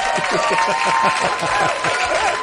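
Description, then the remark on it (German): A crowd claps and cheers in a steady, dense burst of applause, with lively voices mixed into the noise throughout. No single speaker stands out. “Lärm ist super, hier kommt ein Applaus.”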